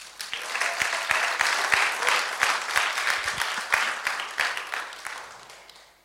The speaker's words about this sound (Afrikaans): Kom ons geef sommer net vir onsself en ons gemeente lekker hande klap.